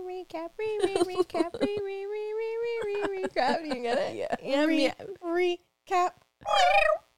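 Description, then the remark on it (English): Two voices take turns imitating a cat's meow, one drawn out and steady, another rising and trilled, with short vocal bursts between them, fairly loud. “Oh, our meows were not the same. It was still a meow. Yeah, she trilled you meow.”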